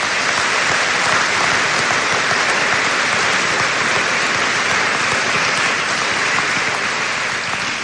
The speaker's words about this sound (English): Let's give these Fort Recovery Community Foundation Scholarship winners a round of applause.